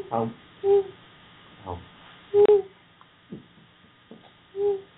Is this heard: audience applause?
no